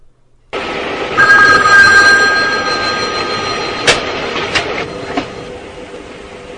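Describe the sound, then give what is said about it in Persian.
A telephone rings with a sustained, bright bell tone over a loud, rumbling background like a moving train, with a few sharp clicks near the end. No one speaks. “یه دفعه تلفن زنگ میزنه.”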